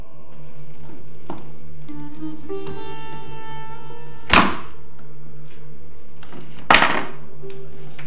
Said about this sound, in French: posez le pied sur le tournevis, remettez la porte au bout de celui-ci, et ensuite, vous pouvez réenclencher les pommelles.